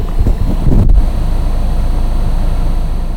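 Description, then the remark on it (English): A Jeep's engine rumbles low and steady, with a brief louder surge early on and a wind-like hiss over the top as it rolls slowly into a parking lot next to a fireworks stand. No one speaks. “But I'm pulling my Jeep into a parking lot next to a fireworks stand in the same area.”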